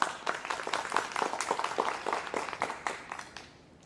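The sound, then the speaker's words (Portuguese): A crowd applauds to welcome the municipal secretary, Jonatas Randall, at an opening class, with dense, steady clapping for a few seconds, moderately loud, before it thins out and fades toward the end. No one speaks over it. “Vou pedir que vocês dêem uma salva de palmas, por favor.”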